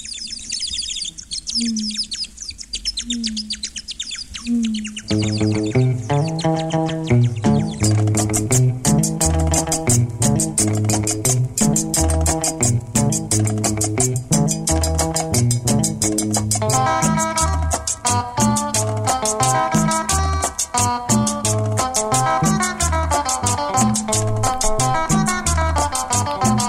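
Bright bird-like chirping whistles open the track, then a bouncy cumbia groove kicks in with steady percussion, bass and melodic lines, the chirps continuing over the loud, upbeat music.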